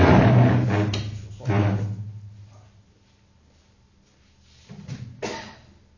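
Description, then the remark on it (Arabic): A door is handled and opened in a few short bursts: clattering, knocking sounds, loudest at the start, then a quiet stretch before a final rattle. “بس مرصتكم شوي يفتح الباب.”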